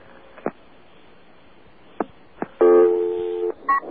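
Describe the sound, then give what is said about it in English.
Telephone dialing tones as a phone dials radio station WBAI: a few scattered sharp clicks, then a loud, steady, buzzy tone held for about a second, followed by one short beep. No one speaks. “Radio WBAI. Dialing. WBAI.”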